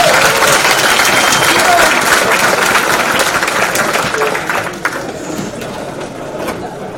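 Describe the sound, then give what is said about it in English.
A crowd at a talk about designing for failure claps in steady, dense applause for audience members who have brought down production software; it holds strong for several seconds, then gradually thins and softens toward the end. “Give these people a round of applause.”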